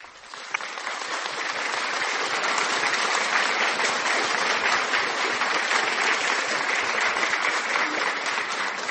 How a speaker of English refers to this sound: Applaudis pour le Seigneur Jésus-Christ de Nazareth. Applaudis, applaudis, applaudis.